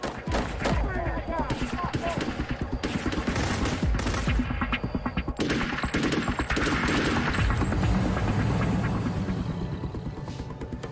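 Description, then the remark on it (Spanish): A sustained burst of gunfire as masked gunmen fire more than 50 rounds toward a house in an attack: dozens of rapid sharp cracks in quick succession, loud and continuous for about eleven seconds with slight pauses between volleys. “Dispararon más de 50 rondas hacia la casa.”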